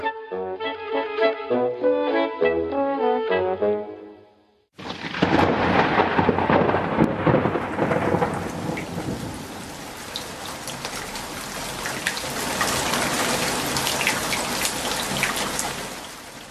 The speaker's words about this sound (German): Ja, es regnet. Es wäre schön gewesen, wenn jetzt so langsam der Sommer richtig kommen würde und nicht jetzt eine Regenzeit.